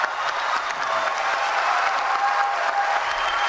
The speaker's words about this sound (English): Everything's clapping, all right. Started off slowly, and then it built, and people started to let go.